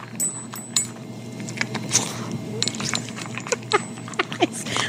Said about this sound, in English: You recorded Theo eating out of his bowl, and that's supposed to be me eating like a dog.